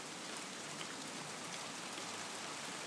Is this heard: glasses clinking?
no